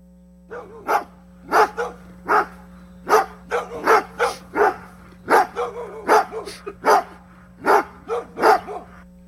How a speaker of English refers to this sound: Everybody give it up for Kirk Herbstreit. Dog Bo.